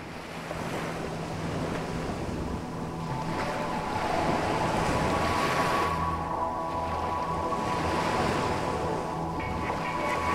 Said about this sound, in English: Then, silence. Only a breeze and lapping waters could be heard.